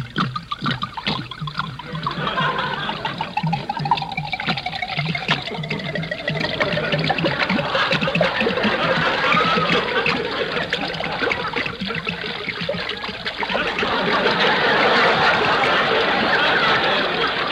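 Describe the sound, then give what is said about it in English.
Liquor is poured steadily from bottles into mincemeat, a continuous trickling and gurgling that runs unbroken for the full length with no talking. “but look, you go ahead and pour it into the mincemeat. I'll pour this bottle in, and then you pour another one in.”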